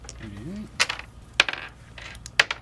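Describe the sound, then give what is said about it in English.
Dice clatter across a table in several sharp, rattling bursts spread over a couple of seconds, after a brief low murmur of a voice at the start; three eight-sided dice and one six-sided die are rolled for attack damage during a battle in a tabletop role-playing game. “Okay, then you roll 3d8 plus 1d6.”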